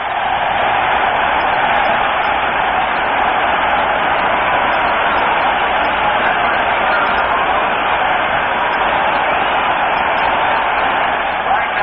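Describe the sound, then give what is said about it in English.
A large stadium crowd at an American football game applauds Lions player Tobin Roach as he leaves the playing field, a loud, steady wash of clapping and roaring that holds at an even level for about twelve seconds, sounding muffled and narrow like an old broadcast. “Tobin Roach doing a great job for the Lions here this afternoon, and he gets a well-deserved round of applause as he leaves the playing field.”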